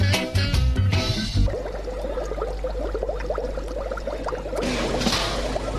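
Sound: water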